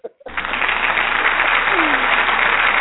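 A brief voice, then a crowd bursts into steady, dense applause, many hands clapping loudly and continuously until the end without fading.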